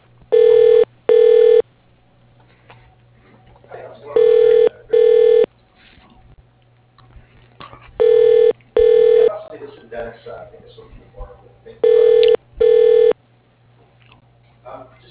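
A telephone extension at RNA Manufacturing, extension 103, ringing in a repeating double-ring pattern, four pairs of buzzy, mid-pitched tones spaced evenly, over a steady low hum and faint background murmur.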